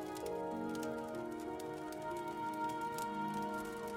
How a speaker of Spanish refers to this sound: Y te relajas mientras escuchas el fuego crepitar.